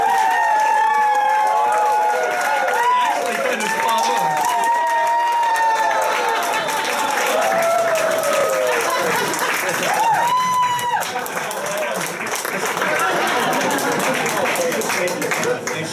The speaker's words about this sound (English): Ladies and gentlemen, let's get a big round of applause for our first guest this evening, Andre the Giant.